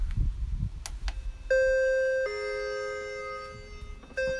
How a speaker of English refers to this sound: And I'm going to step outside and ring the doorbell and see if it rings. Well, as you can hear, it does.